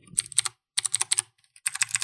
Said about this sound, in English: Well, I've got a mechanical keyboard, so it's supposed to do that. I don't understand what's the mechanical part of it. Well, hear the little clicky.